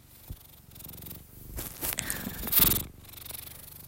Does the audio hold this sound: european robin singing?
no